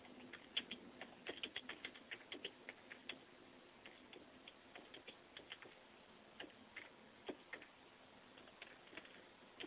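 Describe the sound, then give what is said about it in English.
Rapid, uneven clicking of keys on a computer keyboard, typed with one hand, fairly quiet, with irregular bursts of keystrokes continuing throughout and no voices. “I'm typing with one hand and talking to you with another.”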